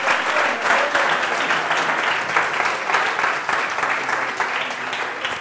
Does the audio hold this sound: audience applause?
yes